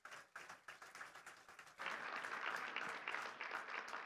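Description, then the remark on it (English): A crowd breaks into applause for the speaker's wife and a ministry worker, starting with scattered individual claps for a couple of seconds before swelling into a dense, sustained wash of clapping from many hands. “So I want to give them a special round of applause this week.”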